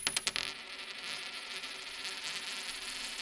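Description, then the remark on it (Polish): A special coin taken from a wallet is tossed for heads or tails and lands with a few quick metallic clinks at the start, then settles into a sustained high ringing hiss that lingers faintly for a few seconds. “Ja mam w portfelu specjalną monetę.”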